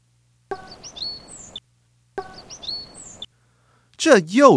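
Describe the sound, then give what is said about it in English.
Birds chirp in two short, busy bursts with quick high whistles over a rustling background, followed by a louder, warbling trill that rises and falls. “这是鸟叫的声音.”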